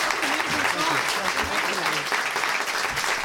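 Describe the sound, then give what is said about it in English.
Loud, steady audience applause at the end of a show, after a song, fills the whole stretch, a dense wash of clapping with a few voices and cheers mixed in underneath. “Keep applauding.”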